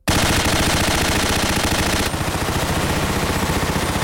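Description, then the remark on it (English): An automatic rifle is fired at a target in a long, unbroken burst of rapid shots, loud and steady for about four seconds, the sharp rhythmic cracks blurring into a harsh rattle with no voices. “Stina picks up an automatic rifle.”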